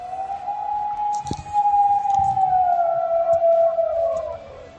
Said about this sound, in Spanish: Es el aullido del lobo que tiene atemorizados a los vecinos de Navelgas, pueblo del concejo de Tineo, con 560 habitantes